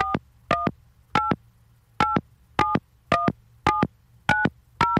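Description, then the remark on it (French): A rapid series of touch-tone telephone keypad beeps as a phone number is dialed, starting with 1, about ten short dual-tone presses in a brisk, fairly even rhythm, clear over a faint low hum, with no voices. “J'ai fait le 1, là.”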